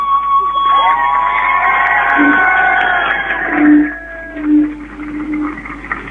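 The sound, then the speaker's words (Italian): A large crowd gathered in a town square in front of the town hall roars and shouts continuously, loud, with a few sharper bursts of cheering rising above the dense wash of voices. “siamo tutti qui in piazza per gridare basta, per non rispondere soprattutto con la violenza”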